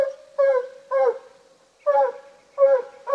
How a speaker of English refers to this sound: When he settles down and goes to chopping steady, that's when you know he's tree. Meaning he's chased a raccoon up a tree and is barking up after it. Not distracted by a squirrel or armadillo, but zeroed in on a coon.